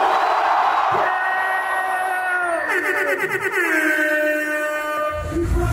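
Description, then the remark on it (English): A large crowd yells and screams at full volume in support of Ronaldo, many overlapping high-pitched voices forming a sustained roar that swells midway and ends with a low rumbling burst. “If you like Ronaldo, yell right now.”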